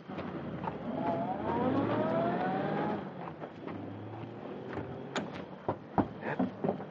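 car driving away

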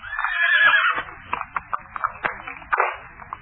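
horse neighing

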